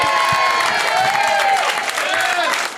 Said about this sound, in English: Everyone feels so bad for me. They cheer so hard when I get anything right.